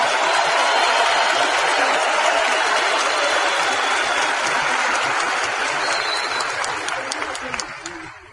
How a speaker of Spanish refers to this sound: Ayúdenme a darle un fuerte y merecido aplauso al doble de todos nosotros, muchachos, a Rich y Jay Manander, que gracias a ellos estamos acá.